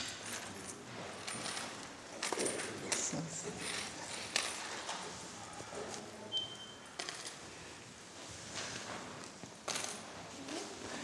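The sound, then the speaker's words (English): Coins clink and jingle as they are dropped into an offering basket, scattered metallic taps and rattles at irregular intervals over several seconds, with faint shuffling in the background. “I'm going to pass the basket for our offering and just put with your coins in there.”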